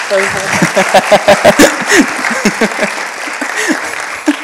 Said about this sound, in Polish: Super. Wielkie brawa dla was. Jeszcze raz wielkie brawa. Dziękuję.